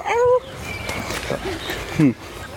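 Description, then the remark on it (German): A person imitates a dog with two short, loud, voiced yelps, one at the start and one near the end, separated by a quiet stretch. “Ja, okay, so macht kein V, so macht ein Hund.”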